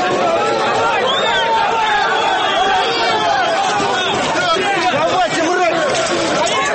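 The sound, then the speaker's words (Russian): A dense, loud crowd of rival football fans, men shouting and yelling over one another to provoke each other in Warsaw on the way to the National Stadium, a continuous roar of agitated voices with no single speaker standing out. “Псевдоболельщики с одной и с другой стороны провоцировали друг друга.”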